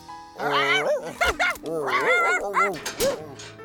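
Two dogs, T-Bone and Hamburger, stuck somewhere together, whine and bark in a loud run of rising and falling yelps and whimpers that overlap one another with hardly a pause for a few seconds.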